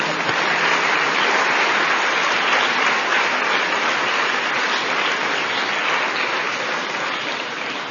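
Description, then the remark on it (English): Steady, dense applause from a crowd fills the whole stretch, a continuous wash of many hands clapping at a constant loud level with no voices standing out. “My colleagues, my friends, this would not have been possible for me to state with pride what we have done this year without the cooperation and help from one and all, and my claps go to you.”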